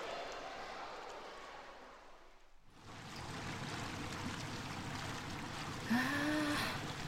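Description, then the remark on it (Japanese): Jacuzzi water bubbles and churns in a steady, dense rush, breaking off for a split second before surging back. A brief voice sounds faintly over it near the end. “気持ちいい。泡最高。ジャグジーさんにノーベノレ平和賞をあげたいなあ、 こう。”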